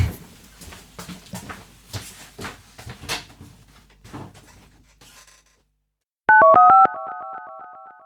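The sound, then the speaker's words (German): Several seconds of soft clattering and handling noises, a brief silence, then a few quick stepped beeps followed by a loud, steady telephone dial tone that continues to the end, as someone places a call from a telephone. “Und ich hüpfe schnell runter und hole den Kopfhörer und ruf dich dann vom Telefon aus an.”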